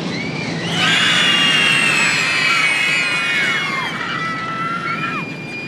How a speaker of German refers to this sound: Schwerelos rast der Zug in die Tiefe. … schreit wie am Spieß.